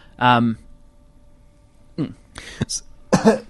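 Someone coughs close by: one short rough bark, a pause of over a second, then a cluster of three quick throaty coughs, with no talking around them.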